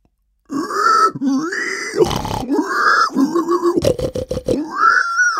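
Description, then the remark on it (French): A human voice imitates a pig as a turn in an animal-sound guessing game: a run of loud, nasal grunts and squealing snorts, broken by raspy, rattling bursts, lasting a few seconds with no talking. “Le cochon.”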